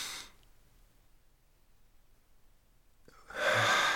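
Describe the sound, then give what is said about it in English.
During a guided breathing exercise, after a long quiet pause, a breathy, airy exhale swells up and carries on steadily to the end; a softer breath fades out at the very start. “And breathing out.”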